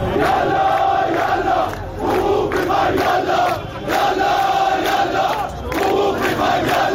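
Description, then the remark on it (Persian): A large crowd of protesters in Iran chants slogans against Islamic Republic officials over high prices and inflation, loud and rhythmic, with phrases repeating in roughly two-second cycles separated by brief dips in volume. “استان‌های مختلف ایران معترضان به گرانی و تورم به خیابان‌ها آمده و علیه مقامات جمهوری اسلامی شعار می‌دهند.”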